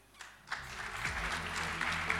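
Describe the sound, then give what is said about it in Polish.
A crowd at an awards ceremony bursts into applause as the jury's results are announced, the clapping quickly building from a few hands into a dense, steady roar of many people clapping at once. “Brawa!”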